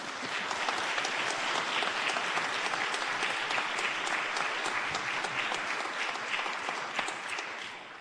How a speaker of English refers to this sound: And now is a great time to applaud for all these candidates.